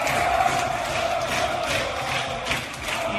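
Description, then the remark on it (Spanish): A stadium crowd roars in a sustained ovation for footballer Marwan Sanadi, who returned to the Cesarre to say goodbye to the Baracaldo fans: a dense, steady wash of cheering and applause with shouts rising through it, loud and continuous with no speech over it. “Una ovación, Manolo, la que recibió Marwan Sanadi, que volvió a la Cesarre para despedirse de la afición del Baracaldo.”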